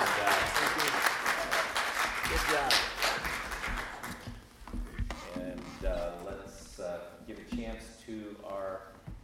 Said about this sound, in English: So let's give these gentlemen a round of applause. Thank you all very much. Thank you.